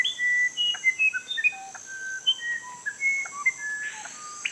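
A rapid series of clear, pure whistled notes jumping between different pitches, the whistles of a screaming piha and the song of a musician wren in a rainforest, rings out bright over a steady high insect hum.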